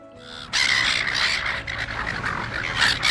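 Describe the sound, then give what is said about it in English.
Loud, harsh seagull squawks and cries overlap continuously after a brief quiet start, a flock of seagulls in Australia calling repeatedly with no voices present. “Noisy and persistent seagulls are notorious for pestering beachgoers in Australia.”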